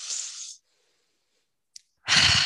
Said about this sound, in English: And I just want everyone to take a deep breath.